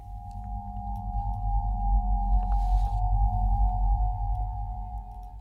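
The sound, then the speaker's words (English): A violin imitates a slowed-down cicada hum, holding one steady, droning tone for several seconds over a thick, pulsing low buzz. It plays alone with no talking. “And now here is a violin imitating that slowed down cicada hum.”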